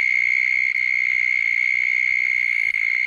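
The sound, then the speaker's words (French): Cicadas drone loudly and without a break outdoors at 2 in the afternoon on a very hot day, a shrill, steady buzzing that fills the whole stretch with no voices. “Les cigales.”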